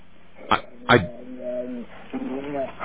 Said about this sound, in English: There you go. There's the dog said mama. So we've had a dog that said mama.